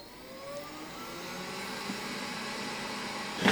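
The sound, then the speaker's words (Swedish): A small white voice-controlled robot vacuum cleaner starts up after a voice command to start cleaning, its motor whine rising in pitch over a steady whirring hum, ending in a brief louder rush of noise as it gets moving out. “Här kommer en liten vit dammsugarrobot ut då.”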